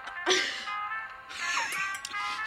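A tinny, hissy old gramophone record plays after the needle is set down, with thin sustained musical tones swelling in two bright phrases over a steady bed of surface noise.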